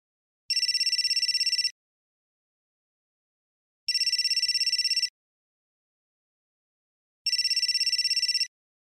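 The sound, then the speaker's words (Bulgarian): A telephone rings three times in evenly spaced bursts, each trill lasting about a second with long silent gaps between. The bright, rapid electronic ringing is clear, with no voices. “Не, но понякога дълго време никой не вдига слушалката.”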